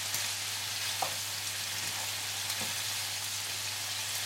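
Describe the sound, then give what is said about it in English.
Chicken pieces browning in a frying pan give off a steady, dense sizzle of crackling oil, with a few sharper pops and a low hum beneath. No one speaks. “Right, now these are browned.”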